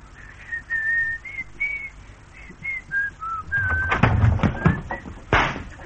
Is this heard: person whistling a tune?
yes